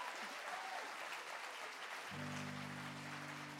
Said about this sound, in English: Thanks for clapping.